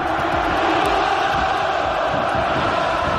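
A huge stadium crowd of Atlético fans at the Wanda Metropolitano roars steadily, thousands standing, clapping for their players and singing the club anthem together in a dense, continuous wall of cheering and chanting without any break, after a Champions League match against Manchester City.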